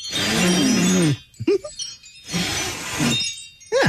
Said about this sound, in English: Yeah, the idea is that when she hears the wind chimes, she can think of her family and friends in Italy talking to her.